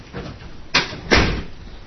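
A door swings shut with two quick, solid knocks, a softer bump followed by a firmer thud as it latches, then a short fading rumble. There is no talking.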